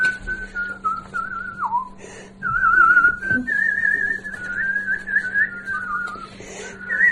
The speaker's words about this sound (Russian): а научите меня так свистеть